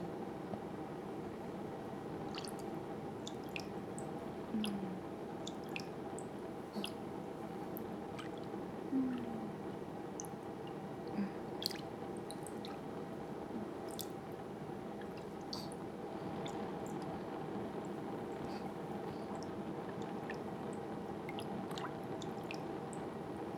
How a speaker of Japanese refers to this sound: そしたら泡立つまでお玉フリフリ。